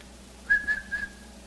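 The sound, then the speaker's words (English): A person whistles a short, steady call to attract attention: three quick, clear notes at one even pitch, moderately loud, with no talking around it. “He's going to whistle for his people and they will come to him.”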